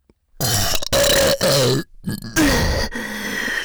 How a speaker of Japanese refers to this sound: ねえ、やば、体内で変な化学反応起こってる。ゲップ止まんね。